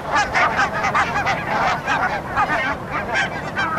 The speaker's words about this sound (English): And a load of geese taking off in front of us. Look at barnacle geese. Yeah, barnacles, yeah. Hundreds of them. Yeah. And turning into the sunlight.